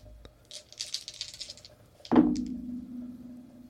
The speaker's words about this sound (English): All right, my first throw. I got 2 dice that correspond with the combo of dice that I can use.